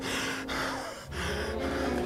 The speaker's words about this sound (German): Gleich darauf höre ich es hinter mir schwer und asthmatisch keuchen.